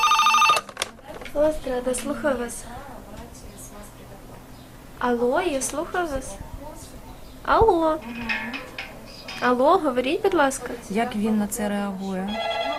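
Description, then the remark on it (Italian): Telephones ring one after another at the busy switchboard of an association that fights human trafficking and violence against women and children, taking over 1,000 calls a month; bursts of warbling electronic ringing repeat every second or two, moderately loud, with a faint murmur of voices underneath. “Uno squillo dopo l'altro al centralino dell'associazione La Strada, che si batte contro la tratta degli esseri umani e la violenza contro donne e bambini.”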